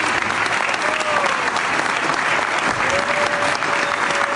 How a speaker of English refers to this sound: It says, the audience first gasped, which was followed by slow applause that turned into cheers.